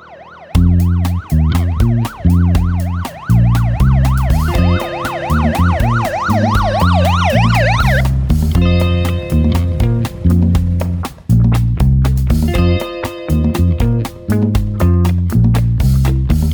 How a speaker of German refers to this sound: Dann drückte er umgehend den Alarmknopf an der Wand. Das Sirenenlicht leuchtete rot auf und die Alarmglocken fingen laut an zu schellen.